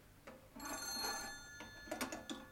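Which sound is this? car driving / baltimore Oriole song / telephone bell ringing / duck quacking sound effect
telephone bell ringing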